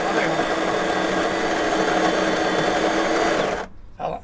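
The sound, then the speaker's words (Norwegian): A coffee machine on a tour bus runs with a loud, steady mechanical whir and hum for several seconds, then cuts off abruptly, leaving a brief quiet tail with a faint rustle. “Nå snakker vi kaffemaskin.”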